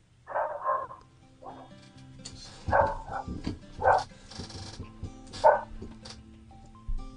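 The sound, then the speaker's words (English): A dog barks in short, sharp bursts, four or five times with irregular pauses between them, clear, with no one talking over it. “Is that dog still on the chopping block?”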